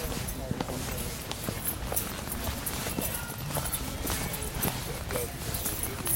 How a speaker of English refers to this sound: That's a donkey, isn't it? Yeah, that's a donkey.